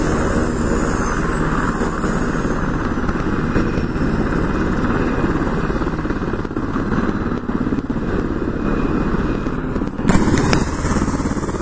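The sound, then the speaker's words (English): A Black Hawk helicopter on a flight line, its APU and main engines running and rotors turning as it gets ready to take off, in windy conditions: a steady, dense mechanical roar, with a brief clattering thump near the end and no voices. “We've got a Black Hawk helicopter about to lift off here.”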